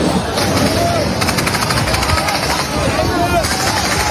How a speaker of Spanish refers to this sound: Este sigue siendo el sonido que se escucha en Gaza, el de los disparos del ejército israelí, que ha intensificado su ofensiva terrestre para hacerse con el control total de la principal ciudad de la franja.